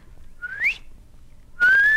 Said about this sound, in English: A brilliant doorman, adult male, with flash patch wings and rufous tail, a piping doorman whistling clear, and oh, it was a song to hear.